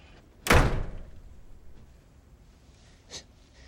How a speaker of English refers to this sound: Oscar walks past Ginny and shuts his office door.